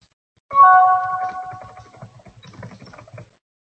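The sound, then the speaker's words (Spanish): A small bird nearby calls through an open window: a clear, ringing, gong-like tone that fades over about a second and a half, followed by softer scratchy chirping. “Sí, ese gong creo que es un pajarito que hay por aquí cerca. Es que tengo la ventana abierta y suena un pajarito.”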